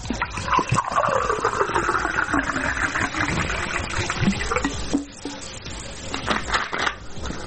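Bottled water pours steadily into a glass in Zrenjanin, Serbia, for about five seconds, its gurgling pitch rising as the glass fills, followed by a few softer splashes and clinks.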